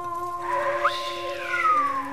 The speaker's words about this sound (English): Said the djinn, whistling.